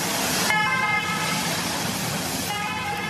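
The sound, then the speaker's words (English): An old-style two-tone ambulance klaxon blares loudly, its harsh horn-like pitch switching between high and low notes in a slow alternating pattern, with no one talking, as the ambulance carries a collapsed cyclist down a mountain during the Tour de France. “With the old diddle-da, diddle-da, klaxon on the old ambulance, gone down the mountain, finished.”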